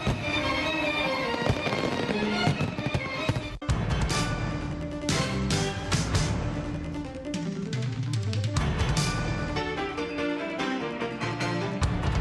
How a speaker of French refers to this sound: Célébration 4 juillet a été finie comme d'habitude avec un gros concert devant Congrès avec feu d'artifice qui t'a tiré en l'air dans le ciel capital là.